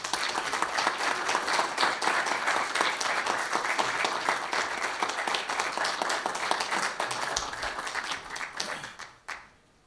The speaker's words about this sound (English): And I think everybody should give them a round of applause.